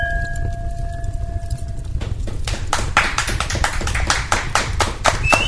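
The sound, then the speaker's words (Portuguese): Glasses clinking in a final toast, to long life for Ilha do Fogo: a steady ringing tone holds for a moment, then a rapid, irregular flurry of sharp, bright clinks and taps over a low background rumble, with no talking. “Então, aquele brinde derradeiro.”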